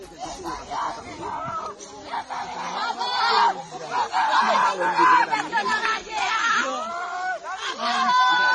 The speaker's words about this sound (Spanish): Bueno, estos terribles gritos, gritos desgarradores, se podían haber evitado. Ya sé que parece un hecho difícil de creer cuando estamos hablando de casi 2.000 muertos y más de 10.000 heridos.